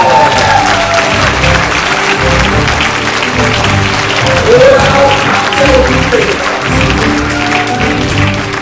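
Steady, loud applause from an audience, dense clapping sustained throughout with crowd murmur and a few brief voices or whoops rising above it.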